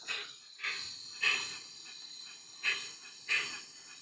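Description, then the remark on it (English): A bird gives harsh, grunting, pig-like calls, several short rasping bursts at irregular intervals over a steady high insect-like buzz. No one speaks. “You want to hear the stinkiest bird?”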